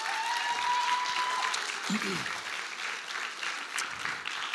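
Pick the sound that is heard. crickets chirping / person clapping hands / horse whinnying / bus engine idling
person clapping hands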